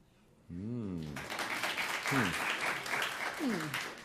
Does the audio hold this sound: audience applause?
yes